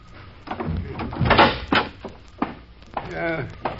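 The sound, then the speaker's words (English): A wooden bunkhouse door is handled and swung open, with several knocking clunks and rattles followed by a drawn-out creak of the hinges, fairly loud. “Doors are on this side.”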